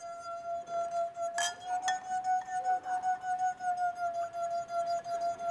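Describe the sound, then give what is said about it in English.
A wine glass from a 22-glass wine glass harmonica, its pitch set by the water level inside, sings a steady, clear mid-pitched note that rings on throughout, with two brief sharp clinks of glass partway through. No one speaks. “And by adjusting the water level, you can adjust the pitch of each note. So here's a note, and here is my tuner.”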